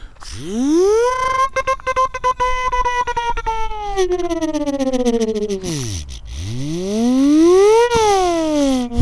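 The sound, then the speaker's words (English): A siren-like wail, probably a voice imitating one: the pitch swoops up, holds, slides down low, then rises and falls again, loud, with scattered clicks. “Maybe I should be using this siren to get people out of my way.”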